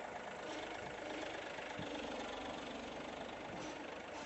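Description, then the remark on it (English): A John Deere tractor engine idles steadily, a constant low rumble with a dense, rattling texture that holds even in loudness throughout, with no one speaking. “Now, just because she did it easy, you think, well, it's only on that model of tractor.”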